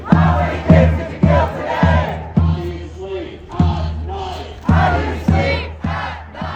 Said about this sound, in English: Meanwhile, outside the event, about 100 pro-Palestine protesters are calling the vice president a war criminal.